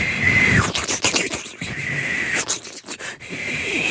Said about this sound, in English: That was a kettle boiling.